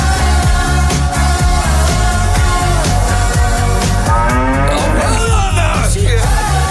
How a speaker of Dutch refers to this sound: En ik weet niet of het je opgevallen is, maar ik hoor op een gegeven moment een koe.